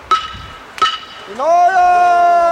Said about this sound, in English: The teams wend their way through the neighborhood, clapping the wooden blocks and calling out their message.